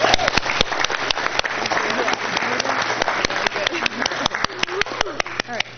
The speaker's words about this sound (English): And we're just super proud of their accomplishments, and it's she was also on our debate team, too, so I'd like to give her a huge round of applause.